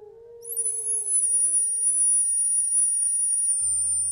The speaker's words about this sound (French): La théière s'est mise à siffler. Je l'ai posée sur le plateau, à côté des biscuits sans sucre, et je suis entrée dans le salon avec le goûter.